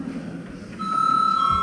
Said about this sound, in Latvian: Lūdzu zvanu.